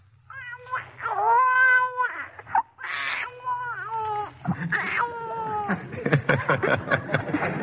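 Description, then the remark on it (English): A voice imitates a newborn baby crying: thin, strained wails rising and falling, followed by choppy sputtering and small coughing bursts, fairly loud with no other sounds. “A newborn baby is very weak and can't do anything much but just cry and sputter and cough a little, like this.”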